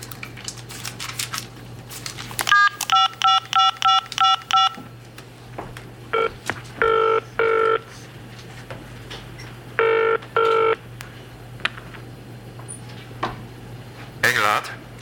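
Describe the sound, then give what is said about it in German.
A quick run of about eight touch-tone beeps as a number is dialed, then two double-burst rings of a phone line ringing, over a steady low electrical hum. “Ich rufe ihn an.”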